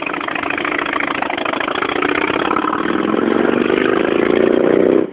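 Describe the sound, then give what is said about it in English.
A Harley motorcycle engine rumbles steadily in traffic, its low throaty idle rising slightly in pitch as it revs, then cutting off abruptly at the end. “That's why I'll never own a Harley.”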